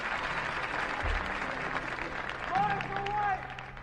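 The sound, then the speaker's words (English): A live 1963 bluegrass concert crowd cheers and applauds in a steady, dense wash of noise, with a few voices whooping and yelling above it toward the end. “Hey, guys out there yelling already.”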